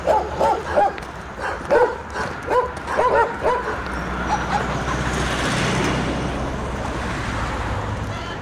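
Several dogs bark repeatedly in the first few seconds, then the barking fades into a steady rushing roar like wind or traffic for the rest.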